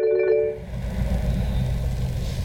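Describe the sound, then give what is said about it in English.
A brief electronic phone ring chirps at the start inside a car, then gives way to a steady low rumble. “Then my phone rings.”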